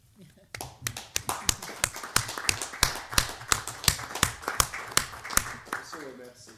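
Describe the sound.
A brief round of applause: sharp, distinct hand claps in a quick, fairly steady rhythm, with people murmuring and talking underneath the clapping.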